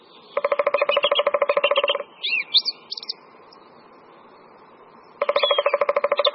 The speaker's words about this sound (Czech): V pozadí nahrávky, kterou posloucháme, poměrně intenzivně zpívá drost zpěvní.